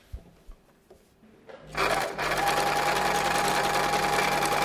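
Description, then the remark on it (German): A sewing machine stitches two sides of a small fabric pouch for a mobile phone, made from heart-patterned fabric. It whirs into a steady, loud, continuous stitching run after a few soft clicks and handling knocks, its motor hum holding an even pitch with a brief dip near the start. “Jetzt kann ich da zwei Seiten zunähen.”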